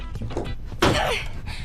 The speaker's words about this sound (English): She hits the chair on a post.